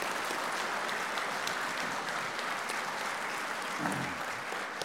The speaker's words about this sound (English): Can we give them a round of applause while they come down? Appreciate that.